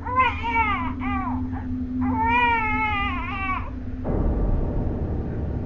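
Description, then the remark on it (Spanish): A baby wails in loud, drawn-out cries, two long bursts with a short gap, then the crying stops and a low rumbling hiss takes over. “Era un llanto, no de esos que suenan como balbuceos o movimientos de bebé, no. Era un llanto real.”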